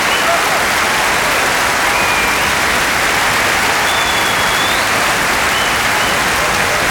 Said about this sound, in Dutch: Bravo. Gentlemen, please. Geef ze nog een enorm applaus, dames en heren.